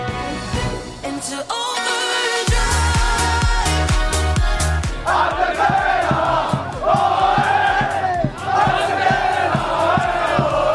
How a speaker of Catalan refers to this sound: Eren els crits de celebració del filial del Sabadell que dissabte, contrastant amb el que va passar a Tarazona amb el primer equip, ens va donar la gran alegria del cap de setmana després d'aconseguir un històric ascens a Tercera Federació